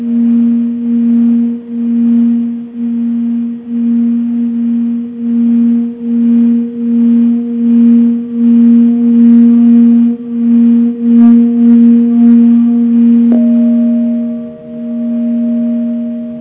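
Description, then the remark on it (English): A singing bowl is played and rings with a sustained low hum and fainter overtones, its sound oscillating in and out of phase in a steady, regular wobble for the whole stretch, with no one speaking. “I'm going to set the phone down for a second and play the bowl and see if you can hear it.”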